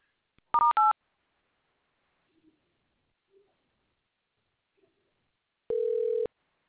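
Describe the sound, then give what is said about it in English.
Two quick dual-pitched telephone keypad tones beep in rapid succession, selecting options in a Mercury insurance claims phone menu, followed after a quiet stretch by a longer, steady lower beep. No one speaks. “For help with an existing claim, for glass, press 1. For auto, press 2.”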